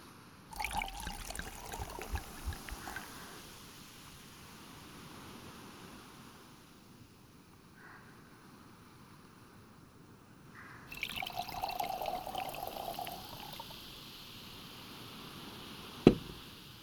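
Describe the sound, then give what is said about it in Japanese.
Another drink is poured into a glass in two short bursts over a soft, steady wash of sea waves under a clear blue sky, with a sharp clink near the end. “波の音を感じながらもう一杯飲みましょうか。”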